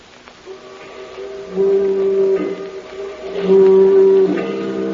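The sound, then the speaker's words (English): A foghorn sounds two long, steady blasts at a low, droning pitch, each swelling louder over a continuous humming tone, with no voices present. “all the foghorns sound alike.”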